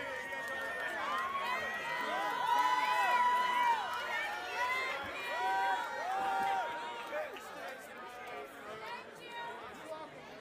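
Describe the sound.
A concert audience in Ouray breaks into overlapping chatter and shouts as people hurry off to escape a sudden rainstorm that rained out the concert, a dense, fairly loud babble of many voices that holds steady for about ten seconds.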